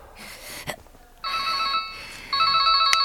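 Peter Shaw's mobile phone rings with a bright electronic melody, starting after a brief pause and then repeating louder, its tonal beeps clear with no one speaking.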